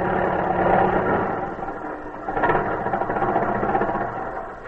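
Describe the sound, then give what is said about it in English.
A taxi cab engine runs with a steady, rattling rumble, swelling briefly as the cab pulls up and then settling into a continuous idle. No one speaks. “Oh, taxi. Taxi.”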